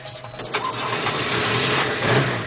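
Ralph's car, taken by Jack and Joan, cranks and catches, then its engine keeps running with a steady mid-pitched rumble that swells slightly near the end, fairly loud with no voices.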